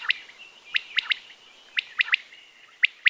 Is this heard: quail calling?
yes